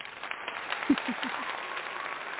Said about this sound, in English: She gets a clap. Yay!